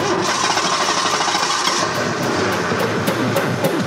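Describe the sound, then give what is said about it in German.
A car engine, just started by Clyde, runs loudly and steadily, a dense mechanical roar with a fast rhythmic ticking that grows sharper partway through. No voices. “Clyde hat den Wagen gestartet.”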